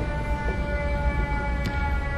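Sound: civil defense siren test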